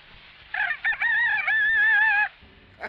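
rooster crowing

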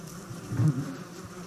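bee buzzing

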